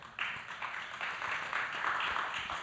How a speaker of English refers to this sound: Sorry to step on your applause break, brother.